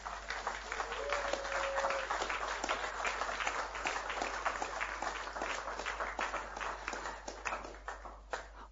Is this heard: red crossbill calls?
no